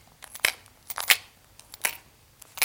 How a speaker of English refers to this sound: He's rattling, because he's got a bag of coins in his back.